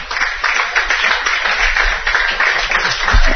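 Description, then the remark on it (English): Steady applause from a crowd for Coach Ryan Anderson, head coach of the Northwest softball team, a dense wash of many hands clapping at an even, fairly loud level throughout with no voices standing out. “Again, we are joined by the head coach of the Northwest softball team, Ryan Anderson, and a big round of applause for Coach Anderson being with us here today.”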